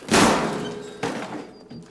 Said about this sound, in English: Red wears a thoughtful look and strokes his beard. He nods at Denny, then picks up the guitar and raises it over his shoulder. He smashes it on the floor and Denny cowers.